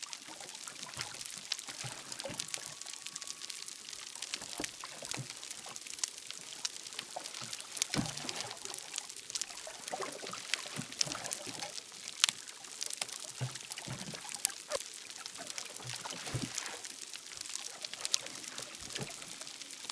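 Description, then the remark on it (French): Dense, continuous underwater crackling from tiny snapping or pistol shrimp closing a claw at very high speed, recorded from 7 pm as night falls, countless sharp clicks fizzing together like fat in a frying pan, steady and fairly loud throughout with no voices. “Ces crépitements sont bien connus des bioacousticiens, dus à de minuscules crevettes appelées claqueuses ou pistolets, selon l'espèce.”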